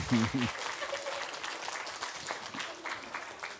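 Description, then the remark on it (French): Steady audience applause for two people who have just recited a poem by Jean Tardieu, a dense wash of many hands clapping at an even level throughout, with a brief voice heard at the very start. “Oui, bravo, je crois qu'on peut les applaudir, hein, toutes les deux.”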